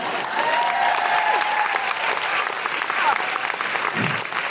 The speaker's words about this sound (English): Yes, you may clap, but if we're going to clap, we're going to do it a big clap, not just one person in the front row.